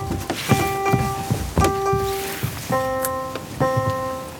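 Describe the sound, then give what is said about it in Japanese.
A navigation device worn around the neck emits its tone for a guidance tactile paving block: four sustained electronic beeps in an even rhythm, the last two slightly different in pitch, with soft footstep thumps underneath. “ドンドンドン、これが誘導ブロックの音だということで、”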